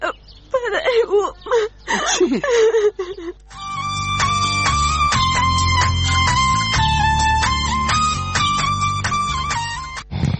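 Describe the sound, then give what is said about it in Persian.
A girl cries and whimpers for a few seconds, her voice wavering in short broken sobs, before steady music takes over and fills the rest. “دخترم، تو خو گریه میکنی، چی گفت است؟”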